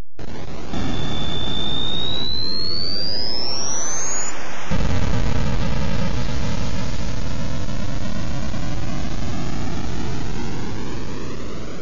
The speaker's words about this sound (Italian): Mamma mia che emozione! Accendiamo i motori!